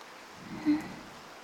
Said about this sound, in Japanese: そろそろ梅雨も終わりかと思いましたが、ご覧のありさまです。朝は降っていなかったのに突然降り始めて困ったものです。こんなに降るだなんて、ちゃんと天気予報を見ておくべきでした。